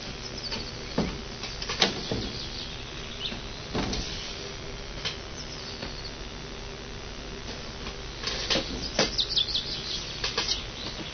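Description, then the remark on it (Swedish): Outdoor ambience through an open window in Nacka under a fully overcast, dry sky, with scattered bird chirps near the top of the sound and a few soft knocks and rustles; no one speaks. “Ja, det är lite fåglar här ute i alla fall.”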